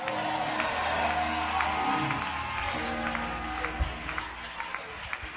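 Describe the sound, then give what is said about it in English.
A large audience claps and cheers steadily throughout, a dense wash of applause with scattered shouts and whoops rising from the crowd, fairly loud and sustained. “Are you clapping for my mother?”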